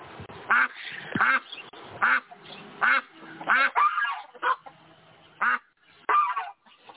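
A duck quacks loudly and repeatedly, about nine nasal honking calls in an uneven rhythm, with faint background noise between calls and no talking.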